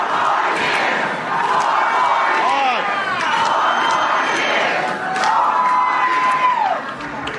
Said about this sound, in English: not to be outdone, former President Barack Obama emerged today. He made a campaign appearance in New Jersey and was met with cheering.